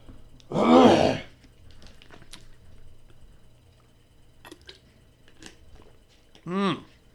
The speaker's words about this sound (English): A little sip of my Gatorade there.